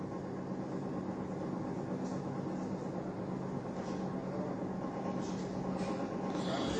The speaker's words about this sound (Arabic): صوت المكيف يعني ممكن نغلقه.